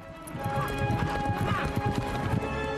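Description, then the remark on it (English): A horse gallops away, ridden by George, who wears a nun's tunic marked with a red cross over his chainmail; its hooves pound out a quick, steady clip-clop rhythm that carries through the whole stretch at a fairly loud, even level. “Still wearing a nun's tunic marked with a red cross over his chainmail, George jumps on his horse and gallops away.”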